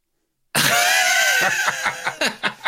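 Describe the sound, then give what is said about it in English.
A crowd of fans roars and shouts together in a loud, sustained burst, then breaks into rhythmic chanted pulses, singing and shouting "Luton" without the T, like football fans bellowing a chant in a stadium. “As they're all singing, shouting Luton without the T.”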